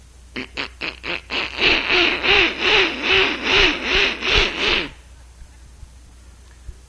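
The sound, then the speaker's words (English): A voice imitates a duck quacking, starting with a few short clipped quacks and then running into a fast, nasal stream of rhythmic quacks for several seconds before stopping abruptly. “A little bit of duck.”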